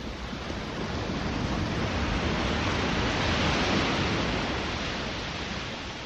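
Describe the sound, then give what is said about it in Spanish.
Ocean waves wash steadily onto a beach at dusk in a continuous broad roar, swelling slightly and easing back, with no voices present. “Entonces me puse a oír el mar.”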